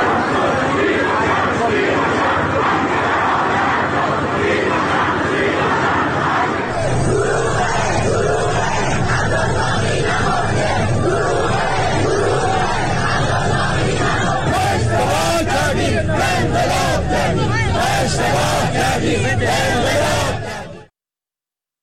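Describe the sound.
A large crowd of hundreds of citizens protests in the street in Abadan, Iran, on Wednesday evening over the handling of the crisis, chanting slogans against senior Islamic Republic officials in loud, rhythmic unison, voices swelling and repeating. Near the end, sharp bursts of shouting punctuate the steady chant.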